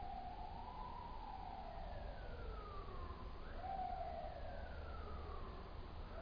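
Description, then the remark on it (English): An emergency vehicle siren wails continuously, its pitch sweeping slowly up and down over a low traffic rumble, steady throughout with no one speaking. “To see in this very siren that we hear right now, that everything is perfect and complete.”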